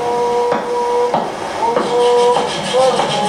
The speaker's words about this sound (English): You take the drum and you listen to this background noise of the river, and hold it in your hand and start imitating what you're hearing, and you'll pick up a song.